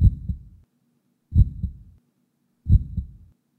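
A recorded human heartbeat is played, thumping three times at a slow, steady pace, each beat a deep, muffled double pulse. It is clear, with no voices.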